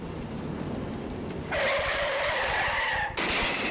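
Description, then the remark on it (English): A car skids out of control, its tires shrieking in a loud, sustained skid that breaks off briefly and then screeches again, layered over a steady low engine rumble, intense. “He'd been drinking, so he couldn't control his car in an emergency.”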